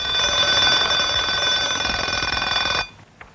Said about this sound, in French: C'est réveil à 2h du matin. Départ, 3h.